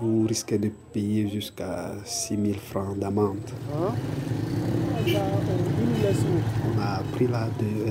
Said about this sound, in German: Wir haben ein Motorradtaxi zum Krankenhaus genommen.